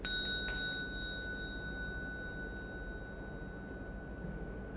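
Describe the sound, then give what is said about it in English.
A meditation bell is struck once as the signal for a group to take one step, ringing out with a clear bright tone that lingers and slowly fades over several seconds against a soft background hum. “So I will strike the bell, and then you all do one step at a time, okay?”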